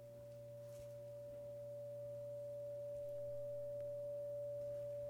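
A telephone ringback tone: a single steady electronic tone holding unbroken for about five seconds over a low constant hum, with no voices.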